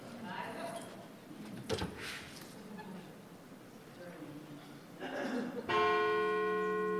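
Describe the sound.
Near the end a bell is struck once, loud and close, its bright tone ringing out steadily. Before it, indistinct voices and room noise fill an indoor space.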